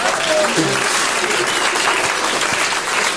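A crowd applauds steadily, a dense wash of clapping hands that stays loud and even throughout, with a few faint voices briefly audible underneath.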